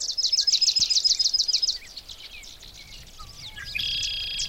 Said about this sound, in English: Ah, that was a swamp sparrow. Very much staccato sound, da da da da da da da da, all in one tone.